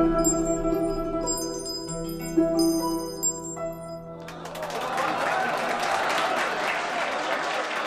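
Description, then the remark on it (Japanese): Tinkling, bell-like music plays and fades as a performance ends, then a crowd, including a king, bursts into steady, dense, generous applause that carries on for the remaining several seconds, full. “演奏が終わり、惜しみなく拍手を送る王の様子を見た狂言は安心し、自分が干拓のために踊れたことにとても満足しました。”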